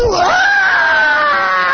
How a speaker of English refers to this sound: I mean, that's a primal scream that comes right out of the guts, the bowels, right down there where the bladder and the gonads and everything exist, right down there.